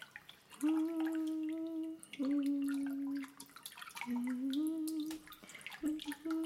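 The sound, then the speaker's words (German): Water sloshes and drips in an echoing mikveh (Jewish ritual bath) with a silver chalice in the water, with scattered splashy trickles and a low sustained tone rising and falling in several long phrases over it. “Ach, psst, wir sind doch in der Mikwe. Und da ist ein silberner Kelch im Wasser.”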